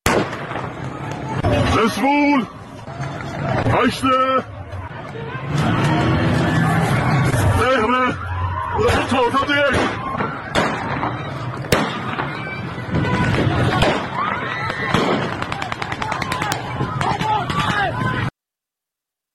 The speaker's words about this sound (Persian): دسپول شب گذشته شاهد درگیری‌های گسترده‌ای بود که ویدیوهای موجود نشون میده ماموران به سوی مردم شلیک میکنن. اگر ویدیو آماده باشه میتونیم صدای اون رو بشنویم با هم.